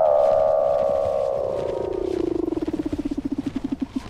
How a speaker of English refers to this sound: Weddell seals trill, chirp, whistle, and buzz.